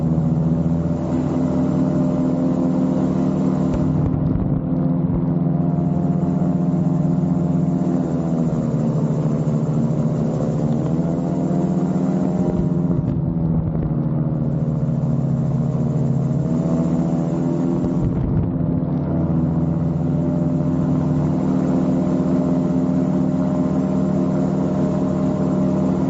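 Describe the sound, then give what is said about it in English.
A small personal single propeller plane drones steadily and fairly loud for the whole stretch, its buzzing pitch sagging and rising slightly as it passes overhead, with no voices. “Some kind of personal little single plane or whatever.”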